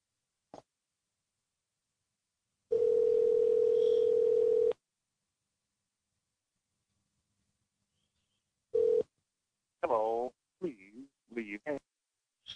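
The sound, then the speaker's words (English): A steady, loud telephone dial tone hums for about two seconds, then a short tone blip follows after a pause, and a voice speaks briefly at the end. “Call him back”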